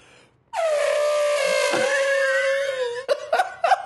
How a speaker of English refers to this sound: To hear the elephant.